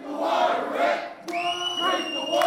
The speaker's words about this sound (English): The chants of protesters just outside the doors could be heard inside the room throughout Governor Snyder's budget rollout to state lawmakers.